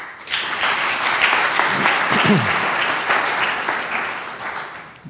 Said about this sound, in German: Ich finde, das ist auch ein Applaus wert.